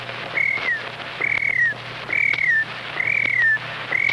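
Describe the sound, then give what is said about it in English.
A voice imitates a cricket chirping: five short, high whistled chirps, each dipping slightly in pitch, repeated in a steady rhythm over a faint low hum. “Well, the first imitation is a cricket.”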